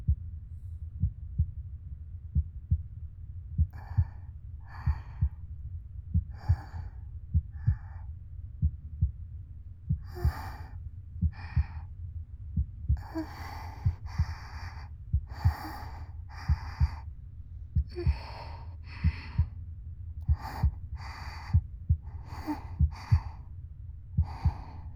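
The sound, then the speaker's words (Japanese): A steady heartbeat thumps in a regular low rhythm throughout, while soft breathy sighs and exhalations come and go over it, growing more frequent toward the end. “私は心臓の音を聞いて落ち着くわけじゃないけどな。”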